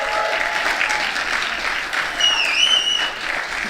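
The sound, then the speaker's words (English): A crowd applauds steadily for the Afghan Activist Collective after their theater piece, Break the Silence: a dense wash of clapping hands at an even, fairly loud level, with a few high whistles cutting through near the end. “A big round of applause, please, again, for them.”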